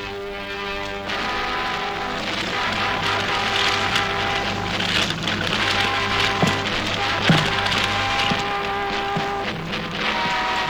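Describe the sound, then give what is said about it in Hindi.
Paper being burned to destroy the evidence of a debt, with a dense, continuous crackle and scattered sharper pops over a steady low hum, holding an even loudness throughout with no voices. “कागज क्यों जला रहे हो?”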